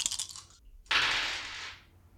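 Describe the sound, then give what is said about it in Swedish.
Dice rattle briefly in a hand, then after a short pause tumble across a hard surface in a bright, clattering roll that fades out, coming up a total of 12. Fairly quiet, with no talking. “12 fick jag, det var ju lite för högt. Så då kastar jag väl om 2 tärningar.”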